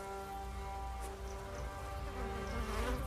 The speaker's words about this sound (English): The field is littered with dozens of buffalo carcasses. Flies buzz around the bloody remains.